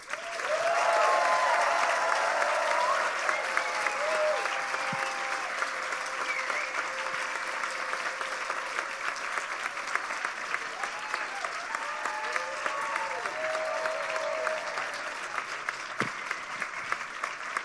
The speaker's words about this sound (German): Das Publikum entscheidet nun, per Applaus, ist es die Aktion von